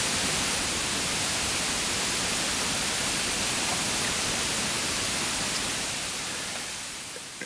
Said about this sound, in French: Et ceci serait un bruit blanc.